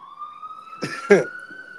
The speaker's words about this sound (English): Pardon these ambulance sirens. You know this is New York. You good? That just makes the interview authentic, man. New York shit. You know they love to be loud out here.